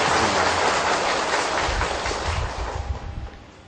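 An audience applauds in praise of Tường Vân Buddhist pagoda, in a dense, steady wash of clapping that holds strong for a few seconds, then thins and fades toward the end. No one speaks.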